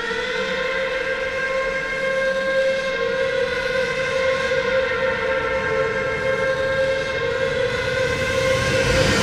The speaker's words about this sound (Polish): Po drodze znów dostrzeżono nadjeżdżający z drugiej strony inny pociąg. Tym razem jednak był on prawdziwy. Pociąg pasażerski numer 514 jadący z Lethbridge.